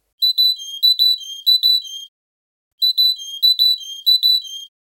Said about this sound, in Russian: После кулика идет синица весенняя. Эту песню «Большая синица» Парус Майер исполняет, как правило, только весной.